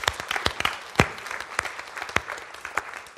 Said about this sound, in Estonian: Aplaus teile, aitäh teile.